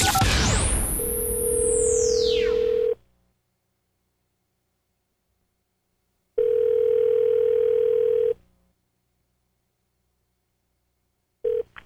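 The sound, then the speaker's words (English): A rising whoosh opens into a steady telephone tone that cuts out, then sounds again for about two seconds after a pause, with a third burst starting at the end, as a call to Gamblers Anonymous is placed for a Mojo in the Morning phone scam on Channel 955. No one speaks. “So we're going to call him right now, and we'll see what he could do for my gambling situation.”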